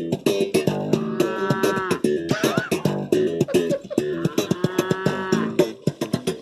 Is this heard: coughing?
no